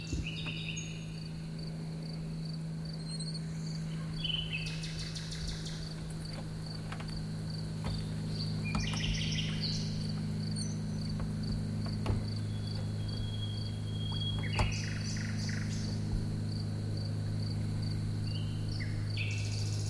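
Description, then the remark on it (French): A nightingale sings at midnight near a river between Saint-Georges-de-Rex and Coulon, in scattered, varied bursts over a steady cricket trill and a low constant hum of night ambience, with no voices present. “À minuit, près de la rivière, entre Saint-Georges-de-Rex et Coulon, le rossignol.”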